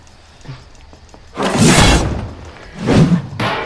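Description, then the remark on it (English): A video game weapon bounces off a wall: a loud, noisy crash lasting about half a second, then a second shorter impact and a brief bright tail, with no talking. “Yeah, each weapon has a different sound that it plays when it bounces off a wall.”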